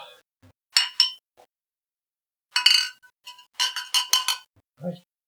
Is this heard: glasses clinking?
yes